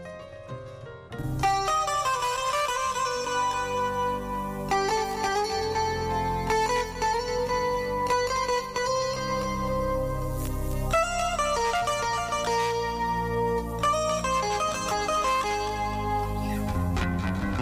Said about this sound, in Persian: اما آل میریم سراغ یک آهنگ.